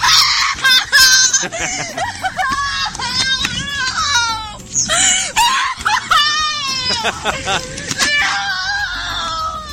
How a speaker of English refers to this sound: I mean, the rest of the video is just her crying, but I want to hear every second of it.